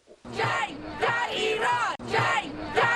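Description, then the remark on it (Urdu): Hundreds of protesters gathered outside Sharif Technical University in Tehran, Iran, chant anti-government slogans loudly in unison and demand transparency, many voices shouting rhythmic phrases, with a brief break before the chant surges again. “Tehran میں سینکڑوں مظاہرین حکومت کے خلاف نعرے لگاتے ہوئے اور شفافیت کا مطالبہ کرتے ہوئے تہران کی شریف ٹیکنیکل یونیورسٹی کے باہر اکٹھے ہوئے.”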